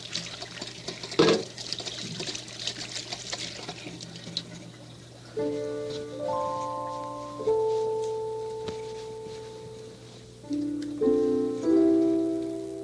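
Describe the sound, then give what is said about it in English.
Water runs steadily from a tap for about five seconds as sticky fingers are washed with soap and water, a brief splash near the start, before soft sustained musical tones take over and the water fades. “Soap and water for sticky fingers.”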